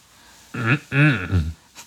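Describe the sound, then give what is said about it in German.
A man at a shop checkout forcefully and energetically clears his throat in a voiced, three-part ahem, each short burst rough and throaty with a clear pitch. A faint breathy puff follows after a brief pause. “Er räusperte sich energisch.”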